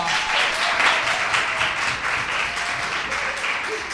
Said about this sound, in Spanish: Hoy estamos aquí en el eSmart Core Zaragoza de Villajoyosa. ¡Un fuerte aplauso!